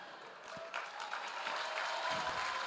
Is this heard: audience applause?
yes